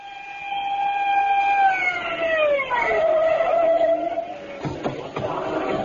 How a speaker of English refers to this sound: The screaming siren of Lieutenant Edwin Grounder's squad car broke the silence of the night as it pulled to a stop in front of a rooming house on Main Street, where, despite the lateness of the hour, a sizable crowd had gathered.